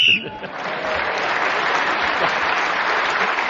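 A short, shrill whistle blast at the very start marks the end of a round of a panel game as Tony Hawk is speaking, quickly swallowed by loud, sustained applause from an audience that carries on to the end.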